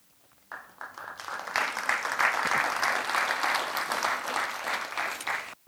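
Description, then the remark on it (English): An audience breaks into applause after a poem is read, starting with a few claps and swelling into steady, loud clapping that holds for several seconds before stopping abruptly. “I'm, by the way, well aware not all my poems are clappers, so it's okay not to clap.”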